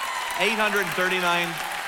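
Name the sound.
audience clapping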